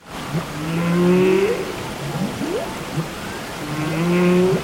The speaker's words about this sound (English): A choir here in the UK has created a song featuring the sounds of humpback whales off the coast of Iceland.